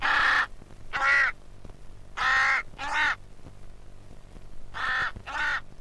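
A raven calls with harsh, croaking caws, six in all, delivered in three closely spaced pairs. The calls are loud, with a faint low hum in the gaps.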